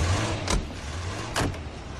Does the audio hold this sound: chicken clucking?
no